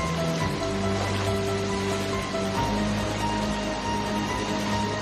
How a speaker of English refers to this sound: He floats on his back through the rapid water. His body tussles throughout.